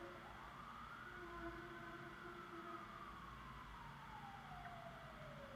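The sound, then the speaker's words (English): An emergency vehicle siren wails steadily outside, its pitch slowly rising then falling as it passes, over a constant low rumble of traffic, with no one talking. “Interesting that a siren's coming up right now.”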